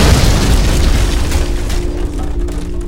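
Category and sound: sound effect, dynamite explosion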